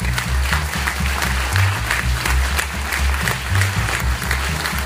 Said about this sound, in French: Donc je demanderais quand même qu'on applaudisse ces partenaires.